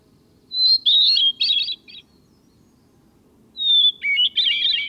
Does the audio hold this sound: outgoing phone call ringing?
no